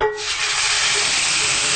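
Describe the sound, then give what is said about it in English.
A loud, steady sizzling hiss bursts up as a steaming-hot fresh tomato sauce mixture hits a hot pan, holding constant with no voices over it. “Now we're going to go ahead and add our tomato sauce mixture.”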